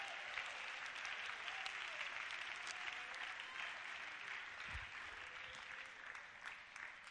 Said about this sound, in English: Clap your hands one more time to the Lord.